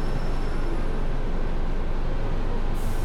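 A bus engine idles with a steady low rumble, then a sharp pneumatic hiss bursts in near the end as the doors shut before the bus departs. No one speaks.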